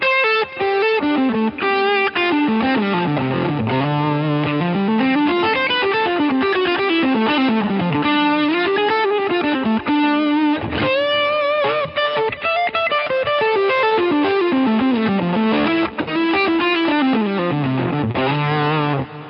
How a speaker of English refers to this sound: So this is kind of like that smoky, all open Dumble kind of tone. You'd see this drive here.